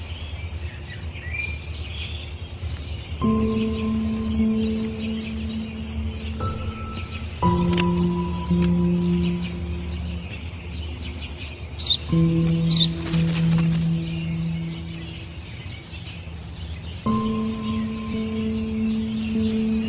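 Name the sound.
sparrow chirping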